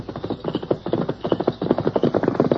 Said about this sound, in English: You listen, you hear horse. Trench come along trail behind me. Him not know me see him. I hear him, Tonto.